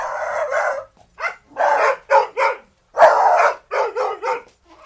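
Several dogs bark in quick, uneven bursts, loud, with short pauses between the barks and no talking; dogs barking were used as a sound in recording a 1966 pop album.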